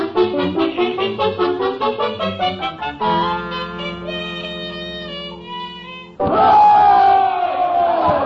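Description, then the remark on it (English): A large crowd at a political rally chants in quick rhythmic bursts, then holds a steady sustained tone before breaking into a loud, roaring wave of cheering and shouting that carries on to the end. “ain't this some rally?”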